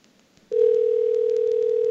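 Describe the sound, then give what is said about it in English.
A telephone ringing tone comes down the line after a number is dialed, a steady single-pitched hum that starts abruptly after a brief hiss of quiet and holds unbroken at an even volume. “It's ringing.”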